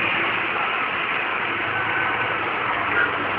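A steady, droning car engine idles without a break, a constant low rumble with a hissy upper edge, even in loudness throughout, with no voices.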